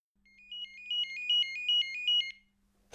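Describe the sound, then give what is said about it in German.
A telephone rings with a bright electronic warble, a rapid trilling pattern of tones repeating for about two seconds, clear, with no one speaking. “Kommst du mal? Telefon!”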